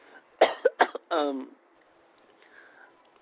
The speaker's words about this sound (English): sorry about the cough.